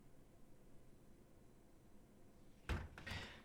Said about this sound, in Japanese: ちゃんと扉も閉めてっと。